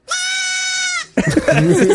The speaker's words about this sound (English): It's a goat that tries to. What is that? Like neigh? Bleat. Or, what is it? Bleat. Bleat. Bleat. Is that what a goat does? I guess.